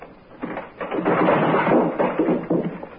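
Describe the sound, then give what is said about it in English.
The door of a guest room is opened, with a few seconds of rattling, knocking handle noises and a creak as it swings. No voices, just the door. “I'm going to open the door.”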